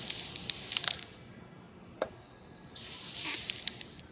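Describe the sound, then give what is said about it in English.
Soft, crisp swishes of a knife gliding through scallions with horizontal, slow, smooth slicing strokes, a few gentle strokes in clusters with a lone sharper cut between, quiet and hissy with no chopping thuds. “Now let's listen to the correct way to slice scallions. This is a more horizontal, slow, smooth slicing instead of a chopping.”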